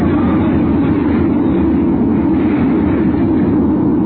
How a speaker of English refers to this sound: area searched by the cutter Mendota is a crowded lifeboat still afloat in the raging seas.